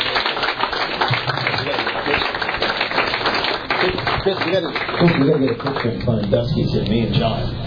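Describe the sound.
An audience claps steadily for about eight seconds, a dense, even wash of applause, while voices talk and call out over it toward the end.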